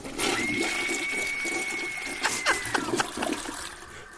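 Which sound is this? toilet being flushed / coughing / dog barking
toilet being flushed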